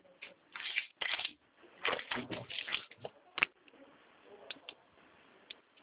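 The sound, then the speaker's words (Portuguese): Irregular rustling and handling noises as a person gets a sheet of paper and picks up a pen to write down a protocol number, with a few sharp clicks and taps scattered through. “Peraí, eu tenho que anotar aqui. Deixa eu pegar um papel. Só um minuto. Ah. Vou pegar aqui uma caneta.”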